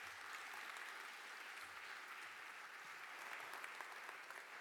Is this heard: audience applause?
yes